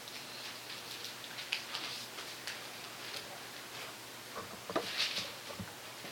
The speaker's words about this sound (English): It's raining outside. What are you going to do? Plant a garden?